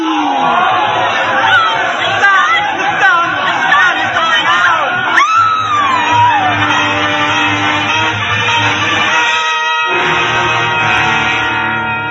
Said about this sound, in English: The crowd went mad with fear.